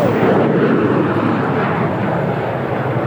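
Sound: airplane roaring overhead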